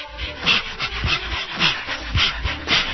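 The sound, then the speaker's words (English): A dog pants rapidly and steadily, with short whiny whimpers and breathy yips mixed into the rhythmic huffing throughout. “Nasty dog.”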